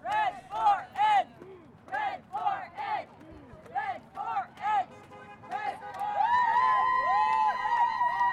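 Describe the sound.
About two dozen teachers and school staff chant in loud, rhythmic bursts, each shout rising and falling, while waving signs outside a school on a road corner in the Gilbert District near Apache Junction. Partway through, several passing cars honk, holding long steady tones that overlap the chanting.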